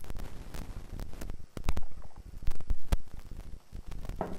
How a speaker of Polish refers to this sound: Herbatę oczywiście w kubku świątecznym mam przygotowaną i chętnie się z tobą herbaty napiję o poranku w ten świąteczny czas. Na zdrowie.